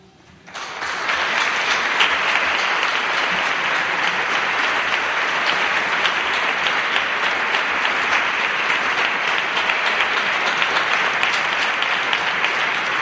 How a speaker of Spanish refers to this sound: no quiero cortar los aplausos, que son muy merecidos. Entregan el premio el hermano mayor de la cofradía y las representantes del Ayuntamiento de Valladolid, cuando quieran.